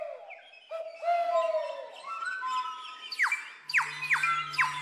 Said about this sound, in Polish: Ale to nie gołąb, to jest kuropatwa. Kuropatwa.